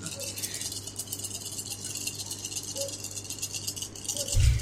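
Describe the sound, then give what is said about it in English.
Dice are rolled for an intimidation roll in a tabletop role-playing game, rattling in a steady, dense clatter for several seconds, a bright jittery shaking sound, ending in a dull low thump as they settle. No one speaks. “Can I get 2 more dice, please?”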